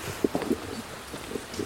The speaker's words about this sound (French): Bon, il pleut toujours, mais ça vous l'entendez. Petite pluie sympathique.